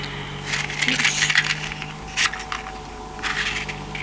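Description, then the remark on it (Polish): A cigarette being lit with a few metallic lighter clicks and scratchy flicks over a low steady car engine hum, with no talking, inside a moving car during heavy rain. “Kate, zapal mi papierosa, bo zasnę.”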